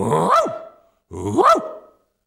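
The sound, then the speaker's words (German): A dog barks loudly twice, each bark a long, rough, drawn-out woof with a brief pause between them. “Als dann im Begriff zu vertieren die Menge mich anfiel, bös, riesenhaft grau, da stand ich auf einmal auf allen Vieren und bellte sie laut an.”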